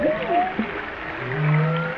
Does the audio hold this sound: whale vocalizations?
yes